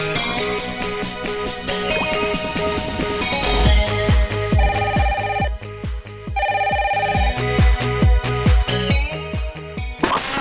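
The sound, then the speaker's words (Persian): A telephone rings for the next caller with a loud, melodic electronic tone over a steady, punchy beat, repeating in short phrases for about ten seconds with no voices. “بله، تلفن بعدی.”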